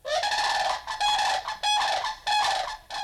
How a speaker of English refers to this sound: That was the weird cry of a Florida sandhill crane. Like most of our most beautiful birds, the sandhill crane needs our protection. Our sandhill cranes are protected by federal and state conservation laws.